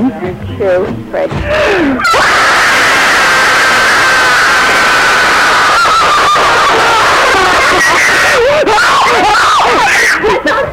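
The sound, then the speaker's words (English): Members of a family scream together in a loud, sustained, high-pitched roar after a brief spoken count of "1, 2, 3", holding for several seconds before breaking into wavering shrieks and yelps. “Okay, so this is going to be a family scream.”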